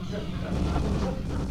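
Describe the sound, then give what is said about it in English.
Explosions from the video game Doom play from a TV in a bedroom as a dense, steady low rumble with muffled booms blending together rather than standing out as separate blasts. “Inside a bedroom, the video game Doom plays on TV.”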